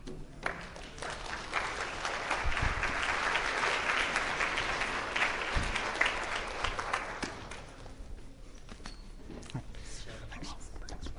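An audience breaks into sustained applause, a dense wash of many hands clapping that holds steady for several seconds before thinning out and fading toward the end.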